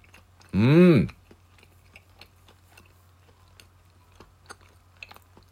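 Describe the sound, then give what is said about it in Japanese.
Quiet chewing of a teriyaki egg sandwich: soft, irregular mouth clicks and smacks scattered over several seconds, following a brief loud voiced hum at the start. “では咀嚼音がしますんで、いただきます。ご注意ください。”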